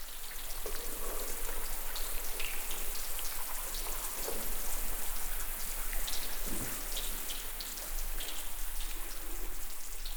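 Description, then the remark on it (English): Air bubbles trapped in melting ice fizz and pop: a dense, steady crackle of countless tiny clicks, like rapid dripping or light rain, continuing throughout with no voices. “Or lots of drips, but in fact, it was the fizz or the popping of lots of bubbles that had been stored in the ice for hundreds or possibly thousands of years as the ice melted and these bubbles were released.”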